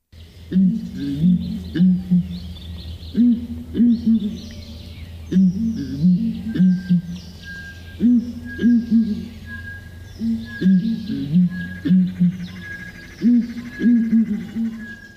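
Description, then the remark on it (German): Deep, resonant booming calls of a ground hornbill, made by inflating its throat sacs, repeat in steady phrases of three or four notes throughout, fairly loud, with faint birdsong and insect hum in the background. “Ihr tiefer, dröhnender Ruf, der ist besonders markant.”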